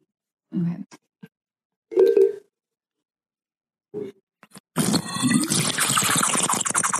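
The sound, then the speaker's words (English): A few short sips of water through the straws of water bottles, with pauses between them, then a longer, noisier stretch of slurping and gurgling. No one talks. “We both have water bottles with straws, so that might have been a little weak tea time for me.”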